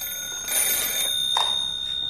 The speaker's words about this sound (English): He stops and stares at the ringing payphone, then reaches out for it tentatively.